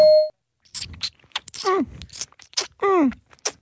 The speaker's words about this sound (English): 20 seconds on the clock. Yeah, the ding signifies the start of the time.